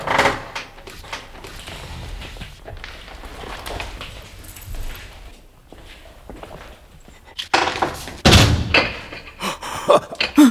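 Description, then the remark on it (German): Footsteps shuffle, then a door bolted from the outside is handled: a sharp clunk and several loud, uneven rattling bursts as it's tugged and shaken near the end, with no one speaking. “Aber jemand hat die Tür von außen verriegelt.”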